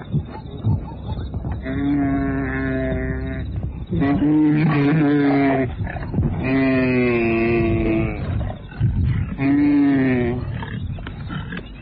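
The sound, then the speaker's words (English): A lioness brings down a wildebeest, jumping at its flanks, biting, scratching and tearing its flesh: loud, drawn-out bellowing groans come four or five times in a row, with rough, raspy struggling noise between the calls. “As he moves too slowly, the lioness jumps up at his flanks and brings him down. She's biting, scratching, tearing away the flesh.”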